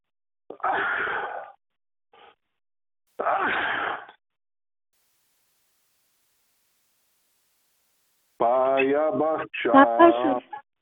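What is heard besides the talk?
sneeze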